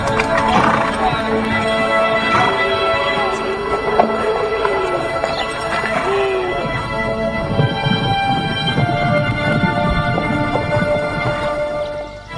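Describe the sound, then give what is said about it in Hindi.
A horse being urged on whinnies a few times while its hooves clip-clop steadily, set against a dense, busy background with faint voices mixed in. “Hey, चल घोड़े, चल चल। अरे चलता क्यों नहीं, चल।”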